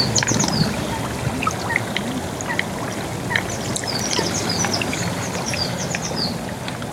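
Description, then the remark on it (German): Steady bubbling and gurgling of carbon dioxide rising through water at mofettes, volcanic gas vents of the Laacher See volcano, a busy continuous burble, with small birds chirping faintly in the background. “Dieses friedliche Blubbern wurde eine Zeit lang als der letzte Hauch des Vulkans bezeichnet.”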